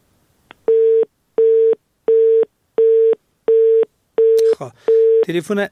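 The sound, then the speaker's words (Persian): A telephone busy tone beeps steadily after a call during a radio program was cut off, seven evenly spaced bursts of a single steady pitch, fairly loud; a man starts talking over the final beeps. “تلفن در رئیس ایبام قطع شد.”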